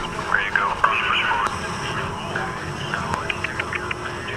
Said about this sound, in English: What we're hearing, from the night sky of Yemen and elsewhere around the world, where drones play an enormous role. What's coming into our ears?